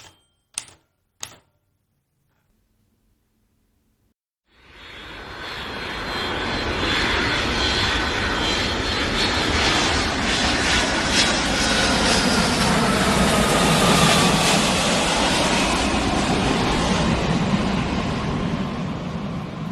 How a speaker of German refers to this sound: Verschlafen machte ein jugendliches Mädchen auf, als das Flugzeug, in welchem sie sich befand, gelandet war.